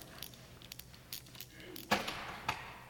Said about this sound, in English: Can you open the safe for me